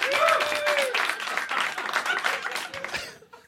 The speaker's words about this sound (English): Applaud if you know what Diablo 4 is.